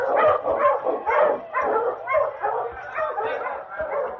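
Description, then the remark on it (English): Husky sled dogs, led by the dog King, bark and yip excitedly in a rapid, overlapping stream of loud barks with a few whiny yelps mixed in, continuing without pause, as the team sets off after the starting gun of a sled race across the icy crust. “Run, King. Run, you husky.”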